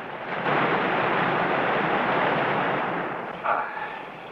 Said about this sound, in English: Water cascades onto the deck as the boat is tossed by the tumultuous waters. Rose is thrown to the floor, and Allnut helps her up as the Queen finally drifts onto still waters.